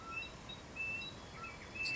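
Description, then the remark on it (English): Scattered birdsong at dawn: several brief, thin, high-pitched whistles and chirps from more than one bird, soft and intermittent over a low, steady outdoor rumble, with no talking. “You know, it can get quiet at nighttime, but then you start to hear the bird life and everything start to rise just before.”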